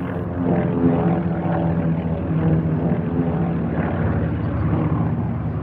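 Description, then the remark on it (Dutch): A dense, steady roar of hundreds of Allied propeller aircraft flying less than 200 meters overhead at the start of Operation Market Garden, September 1944, near Boksdorp; a thick rumbling mass with layered humming tones that stays loud and unbroken throughout, with no voices. “Honderden vliegtuigen scheren op nog geen 200 meter boven hun hoofden.”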